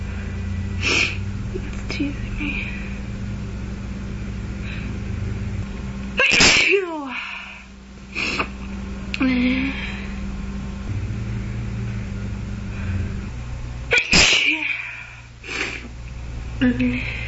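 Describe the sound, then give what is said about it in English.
Two loud, forceful sneezes burst out several seconds apart, with softer breathy sniffs and a steady low hum in between. “For some reason, very big sneezes.”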